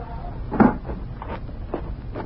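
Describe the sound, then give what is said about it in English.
A door swings shut with one solid thud early on, after someone is told to shut it. Quieter knocks and rustling follow, and no one speaks. “All right, Bascom, you can shut the door now.”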